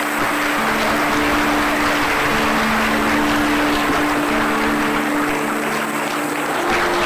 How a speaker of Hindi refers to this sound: और हम सभी ताली बजा करके एक बार मुबारक देंगे, जोर से ताली बजाएं।